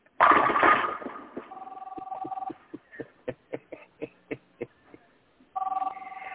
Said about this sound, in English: Ringing? I know, but there's a phone ringing. Somebody answer the phone.